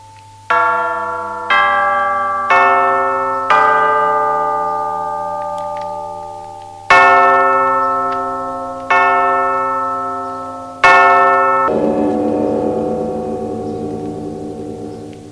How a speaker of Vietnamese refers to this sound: Một loại nhạc khí cổ xưa là chuông biên. Tấu lên thì âm nhạc khiến lòng người sẽ nghiêm trang cung kính.